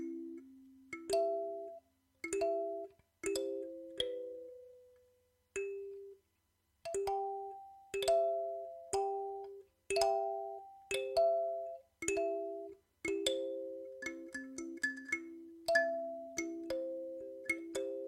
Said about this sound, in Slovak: Áno, je to úžasný zvuk. Čiže takto znie kalimba a niekedy sa na nej dajú robiť rôzne pestvá, pokiaľ máte také diery. Napríklad toto. Čiže takto znie moja kalimba.